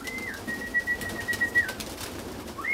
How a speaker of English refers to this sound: I'm standing at the entrance of what looks like a small white house on stilts. It's a pigeon loft. There's a ladder, a door, and a whole lot of cooing.